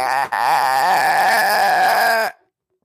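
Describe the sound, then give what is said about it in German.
A voice imitates chirping crickets with a sustained, reedy, warbling tone that wavers in pitch for about two seconds after a short initial break, then cuts off into silence. “Die Grillen. Nicht das Grillen. Weil die so laut sind. Du sitzt hier teilweise draußen und es macht die ganze Zeit.”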